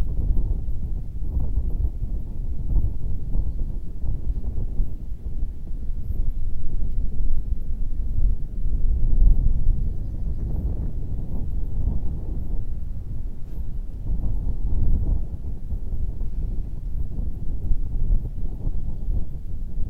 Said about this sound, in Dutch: En ik geef je even de tijd en wellicht hoor je de wind hier op de achtergrond en wat vogels ver in de achtergrond die je even helpen om tot dat moment te komen.